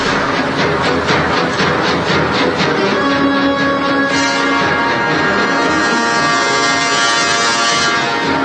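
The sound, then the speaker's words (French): A loud, dense orchestral score from the original soundtrack of the film Jaws (Les Dents de la Mer, 1975) with a menacing recurring motif: rapid, regular pulsing strokes give way to sustained, droning tones. No one speaks over it. “Alors, dans la bande originale, il y a une mélodie qui est récurrente.”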